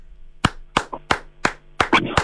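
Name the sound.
person clapping hands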